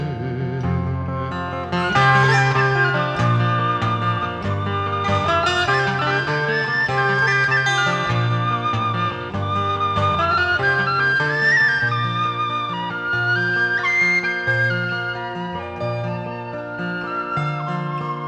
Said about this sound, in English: Thank you, … on the whistle there.